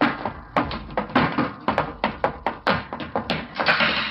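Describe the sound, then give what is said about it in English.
A heavy theater exit door, which opens from the inside, rattles and thuds again and again, a quick irregular series of loud knocks and clunks with no voices, like it is being shoved and pulled shut. “I should have remembered that theater exit doors always open from the inside.”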